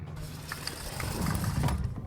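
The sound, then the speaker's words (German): A wooden hut door being opened: a low, grinding creak of the hinges and latch swells in the second half, with faint mechanical clicks and rattles over a steady background hiss. “Ich mache die Türe auf.”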